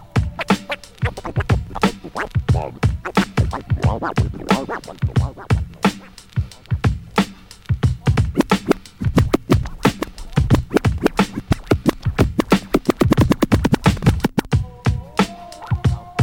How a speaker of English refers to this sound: Reveal the sound of the key. The sound. The sound of the key. Key. Now listen.